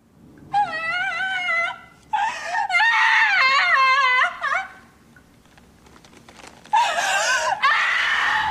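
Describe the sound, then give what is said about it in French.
An actress in a TV series scene sobs and wails loudly as her character learns of her fiancé's death, her voice rising into high, shaky cries in several long bursts with a brief quieter gap before a final anguished outburst. “Elle pleure énormément dans Alias et notamment la scène où elle découvre la mort de son fiancé dans le pilote”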